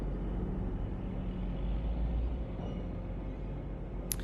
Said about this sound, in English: This road train is probably going off to cart nickel ore from the Savannah mine, the same mine that paid for me to be here and play music with the young Gidja.